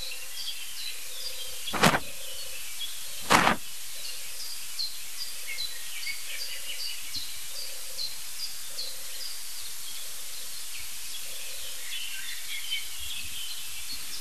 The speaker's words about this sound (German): Das klingt sogar wie zwei Tauben.